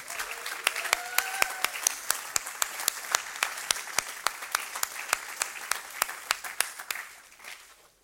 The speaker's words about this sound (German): Und vier von diesen Girls haben sich bereit erklärt, das mit euch zu teilen. Geben wir ihnen doch einen herzlichen Applaus.